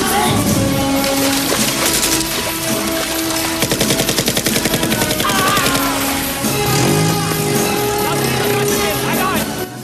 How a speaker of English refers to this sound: Rambo and Co. reach the fence as guards fire on them.